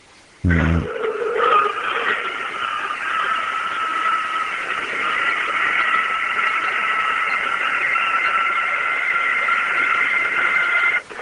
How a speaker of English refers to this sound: I had actually taken a video camera out to the garage in hopes of recording it. But not at this moment, but this scream actually came from later on. But it was the same type of scream. I might be able to play it.